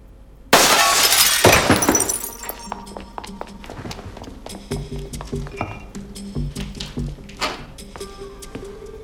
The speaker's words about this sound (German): Ja, es hagelt Drohbriefe und sogar ein Ziegelstein von Stella McCartney wird durch ihr Fenster geworfen.